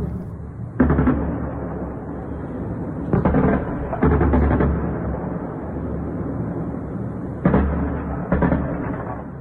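Bursts of rapid, repeated anti-aircraft gunfire during an air-defence exercise held at 5 a.m. local time in Bushehr, Iran, break out several times over a steady rumbling background, each volley loud and sharp, with quieter stretches of continuous noise between them.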